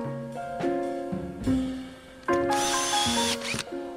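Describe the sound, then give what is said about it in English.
A screw gun whirs in short runs while boards are screwed on to board up a vacant house, its motor whine shifting pitch as it revs and bogs, with a harsher grinding burst as a screw bites into wood. “We use a screw gun, and sometimes we have to put the boards through the brick.”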